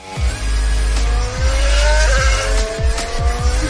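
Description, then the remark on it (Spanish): A racing motorcycle engine screams at high revs on the track at Cheste, where Hamilton and Rossi ride, its pitch climbing and dropping through several quick gear shifts over a few seconds, loud and continuous with no voices. “Nunca me hubiera imaginado montar en moto en pista junto a este fenómeno.”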